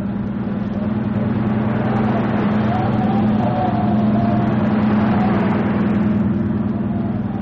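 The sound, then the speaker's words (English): A motorboat engine is opened up and roars loud at high throttle as it gets dark, a steady, deep droning growl that holds for the whole stretch with only slight shifts in pitch. “We go after him? We'll have to. Okay. It's getting dark, Hud. Open her up.”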